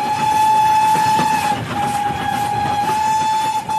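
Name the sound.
train running on rails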